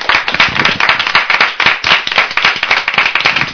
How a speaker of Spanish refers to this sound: Se merece un poco de aplauso, ¿no? Sí, sí, sí.